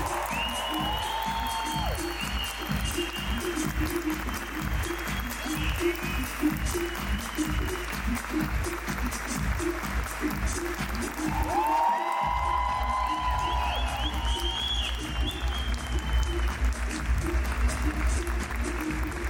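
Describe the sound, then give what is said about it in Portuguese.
A crowd applauds and cheers a guest being introduced on stage: steady, loud, dense clapping with scattered cheers and whoops rising over it, sustained for the whole stretch with a brief dip around the middle. “Palmas, palmas, palmas, palmas, palmas, palmas!”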